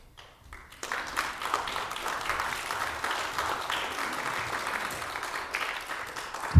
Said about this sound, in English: he would ask y'all to clap as I walked up here, so there was no awkward silence, but I see the people did that on their own accord.